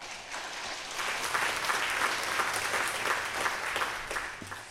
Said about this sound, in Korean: 네, 우리 청년부 격려 박수 부탁드립니다.